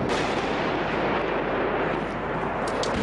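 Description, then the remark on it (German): A dense, loud barrage of shell impacts and explosions in the city of Homs, Syria, under constant fire, rumbling almost without pause, booming blasts blurring into a continuous roar with no voices. “Granateinschläge sind zu hören, Explosionen.”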